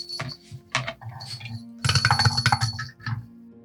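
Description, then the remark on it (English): Dice, rolled for a perception test and hard to read, clatter across a hard tabletop: a few sharp clicks, then a longer rattling tumble that settles and stops. Fairly loud, with no voices. “Those are cool dice, but a little hard to read.”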